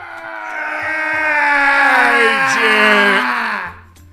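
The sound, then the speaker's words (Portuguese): A man's voice lets out a loud, drawn-out scream lasting several seconds, steady in pitch with a brief wavering dip near the end before it cuts off. It's a vocal imitation of a scream. “Aí o primeiro cara entrou e alguns minutos depois se ouviu um grito alto e prolongado.”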